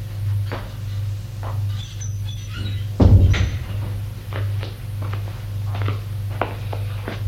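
door being opened

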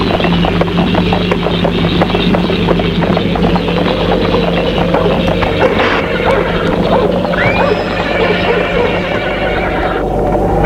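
horse hooves clip-clopping

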